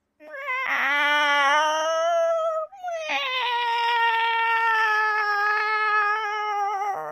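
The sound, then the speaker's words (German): A cat that cannot get down from a tree gives two long, loud, drawn-out meows, the first slightly wavering and the second even longer and steadier, with only a brief break between them and no talking. “Und jetzt kommst du nicht vom Baum runter, gell?”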